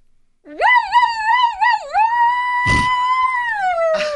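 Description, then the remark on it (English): A person's voice imitates a police siren, a loud, howling tone that wobbles up and down, then holds a long steady wail, broken by a couple of short breathy bursts. “do your best police siren.”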